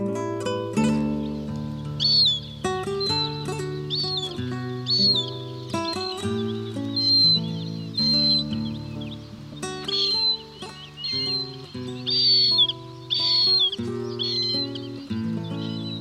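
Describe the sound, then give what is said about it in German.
A marsh harrier calls repeatedly with thin, high, wailing cries in irregular bursts, set over steady sustained musical tones that shift pitch every few seconds. “Das war die Rohrweihe.”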